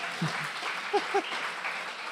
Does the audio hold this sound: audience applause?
yes